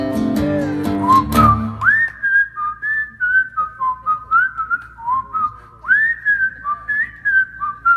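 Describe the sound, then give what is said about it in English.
A bright, clear whistled melody plays alone, moving through a string of sustained and sliding notes in a steady, jaunty rhythm after a brief burst of other sound at the start. “All rise for the whistling”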